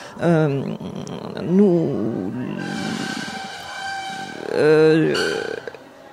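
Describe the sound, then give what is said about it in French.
Tables scrape and drag across a hard floor in the next room, with several loud groaning, squealing bursts and a longer grinding screech in the middle. No one speaks. “Il y a du bruit à côté. Vous savez pas soulever des tables.”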